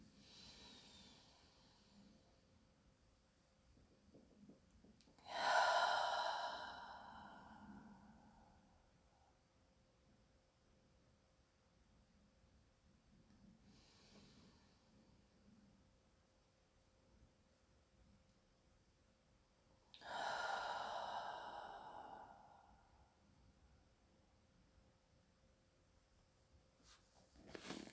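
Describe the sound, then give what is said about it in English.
Slow, deep belly breathing during a relaxation exercise, with two loud, airy breaths about fifteen seconds apart and softer inhales between them. The breaths are unhurried over quiet background hiss, and no one speaks. “And we'll exhale 2 more times, breathing in.”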